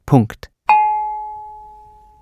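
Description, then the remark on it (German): A short burst of voice, then a single hand-struck gong rings out with a bright metallic tone and fades slowly over about a second and a half. “Allerdings werde der traditionelle Gong weiterhin von Hand geschlagen.”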